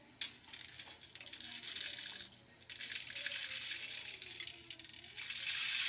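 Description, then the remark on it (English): A rain stick, handled by a boy and his teacher, rattles with a steady, hissing patter of tiny beads, pausing briefly midway before pouring again, growing slightly louder toward the end. “He hands the rain stick back to his teacher and places the other back on the floor.”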